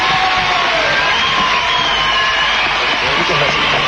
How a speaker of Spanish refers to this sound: Pido un aplauso para los que están en la casa y los que están acá en el estudio. Un gran aplauso para el número uno de la televisión uruguaya.